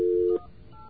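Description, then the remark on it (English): A loud, steady telephone tone holds for about a third of a second and cuts off, followed by faint, quieter keypad-like tones under a low hiss, as a touch-tone number is dialed to call the Alliance to Outfox Phone Fraud. “Got to look at the letters on the phone here.”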